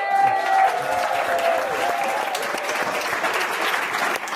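A crowd applauds steadily, a dense wash of clapping that holds at a fairly loud level for several seconds without pause, with a faint tonal hum running underneath early on.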